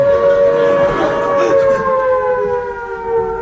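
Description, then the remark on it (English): A loud air raid siren in Warrington wails steadily on its own, its sustained tone gradually sliding lower in pitch as it begins to wind down. “It's a good job the siren hasn't gone, isn't it, Mr.”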